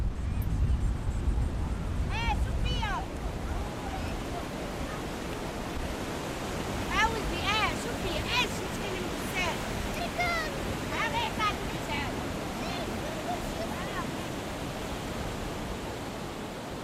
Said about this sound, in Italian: Il lungomare è un posto dove si passa dopo la scuola o dopo il lavoro per fare una passeggiata oppure una partita a calcio o anche solo per prendere una spremuta, che qua è buonissima in tutto il Marocco. Ascoltiamo le voci portate dal vento.